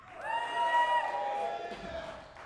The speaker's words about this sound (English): This is a cool crowd. We appreciate y'all being here. Good to have some woos.